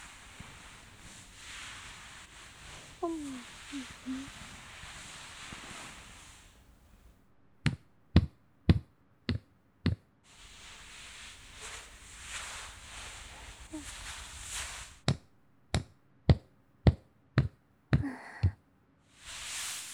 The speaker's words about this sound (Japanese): もみもみもみもみもみ、トントントントントントン、グッグッグッ